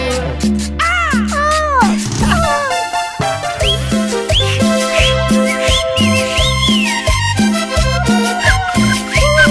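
Bright, sliding whistled tones rise and fall in short arcs over loud, steady music with a thumping rhythmic beat, the whistling riding clearly on top throughout.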